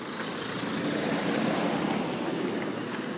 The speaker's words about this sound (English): Just a car coming.